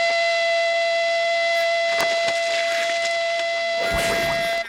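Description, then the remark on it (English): A shrill, sustained whistle blast holds one steady high pitch with bright overtones for nearly five seconds, loud, with a few brief clattering noises underneath before it cuts off. “No more whistles, Wheezy!”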